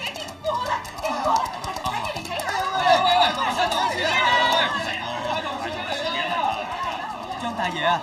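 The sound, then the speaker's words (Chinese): A dense crowd of common people lining the road murmurs continuously as they watch the Tang dynasty envoy party led by Liu Yuanding pass, many voices overlapping into an indistinct babble with no single speaker standing out, steady for the whole stretch. “刘元鼎一行人由长安出发，经过被吐蕃占据的天水、兰州，然后经青海高原入西藏，沿途百姓夹道围观。”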